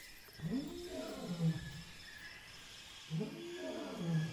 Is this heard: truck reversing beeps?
no